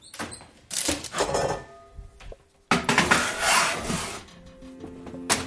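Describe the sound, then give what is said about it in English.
A baking tray of cookies is slid into an oven to bake for about 20 minutes, in two scraping, clattering bursts, with faint metallic ringing tones lingering after. No one speaks. “But anyway, into the oven it goes.”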